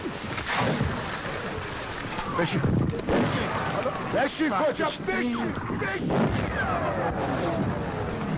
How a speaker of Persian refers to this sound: راهنما حواسش به بمبیه که نزدیکی اونا باز هم در آب فرو میاد.